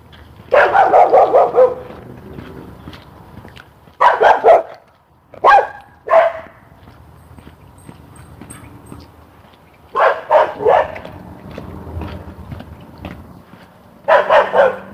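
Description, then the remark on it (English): A small Scottish terrier barks in quick, sharp bursts, clusters of yappy barks repeating every few seconds with brief pauses between, loud over a quiet outdoor background. “There's my friend with a little Scotty dog down there.”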